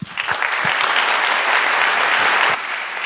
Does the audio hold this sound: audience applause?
yes